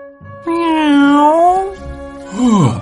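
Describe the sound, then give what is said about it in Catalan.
A human voice imitates a cat, giving a long, drawn-out meow that wavers in pitch, followed by a shorter meow that slides downward. It is fairly loud, with no other sounds. “Només era un gat.”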